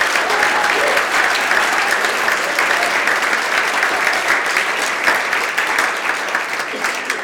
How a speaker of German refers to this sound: Lasst uns Jesus noch einen Applaus geben und denen geht's hier.